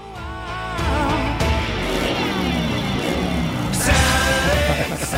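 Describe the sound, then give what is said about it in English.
An electric guitar in a recording studio imitates a motorcycle engine revving with guitar dives: loud, growling, sliding pitch dives and swells that roar up again near the end. No one speaks. “I'm going to play the motorcycle part in the middle here.”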